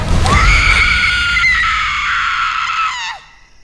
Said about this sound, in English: As the ogress prepares to ingurgitate my precious sausage, … unleashes the most ear-piercing Scream Queen scream.